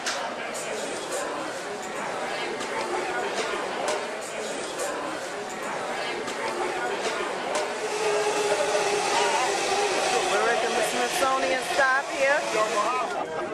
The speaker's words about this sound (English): So now we are going on the metro in DC on our way to the mall.